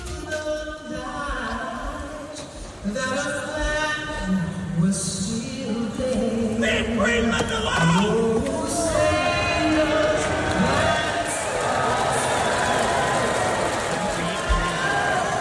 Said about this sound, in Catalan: Ja ho heu sentit, l'himne és interromput pel crit d'un dels aficionats que crida Leave Greenland Alone, deixeu Groenlàndia en pau, una proclama que arrenca aplaudiments majoritaris al pavelló londinenc on es disputava aquest partit de la NBA